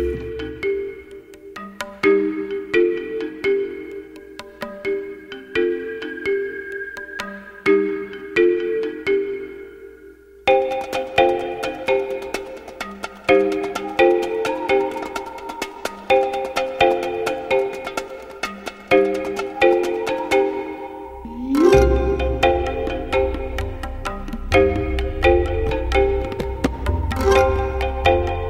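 A film score track plays alone, a bright, plinking mallet melody repeating like a ringtone, gradually thickening with extra layers and a deep, swelling bass near the end.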